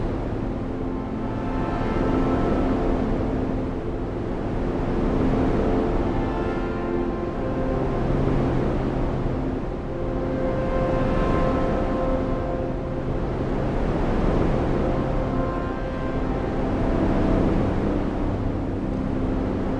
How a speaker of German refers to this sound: Spüre, wie die tiefen Frequenzen dich erden. Sie langsam durch deinen Körper fließen. Stell dir vor, du stehst an einem ruhigen Wasserfall. Das tiefe, sanfte Rauschen umhüllt dich und gibt dir das Gefühl von Sicherheit und Geborgenheit.